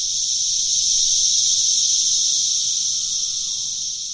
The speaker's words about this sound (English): Once on the treetops, the male cicadas will sing their mating songs to draw the females. And it is loud.